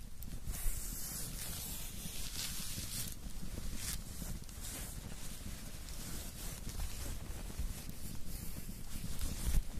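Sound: rain starting to fall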